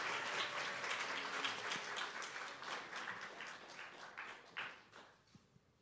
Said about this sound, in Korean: 예, 격려의 박수 하겠습니다. 박수 계속 쳐주시기 바랍니다.